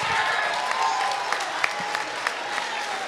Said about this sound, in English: Don't clap for that goofy ass nigga.